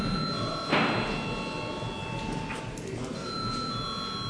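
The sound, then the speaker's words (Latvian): An electric bell rings steadily in a parliament, calling deputies to vote on a bill, a sustained tone with a sharp onset that carries on over soft murmur and faint voices in the background. “Lūdzu zvanu.”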